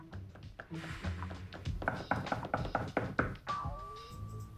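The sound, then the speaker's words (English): A pencil taps on an empty pad of yellow paper in an apartment, in quick, uneven bursts of dry ticks, continuing steadily for several seconds with a faint ringing tone near the end. “Alex is sitting in his apartment, tapping a pencil on an empty pad of yellow paper.”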